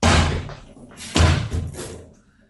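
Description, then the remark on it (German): A door bursts open, without a knock, with a loud bang. About a second later comes a second heavy thud as it swings against something, then it settles into quiet. “Wenn eure detektivische Epigonalität die Abschweifung verzeihen, befänden wir uns in einem der klassischen Romane des seligen Raymond Chandler, so käme nun ein Mann durch die Tür, eine Pistole in der Hand.”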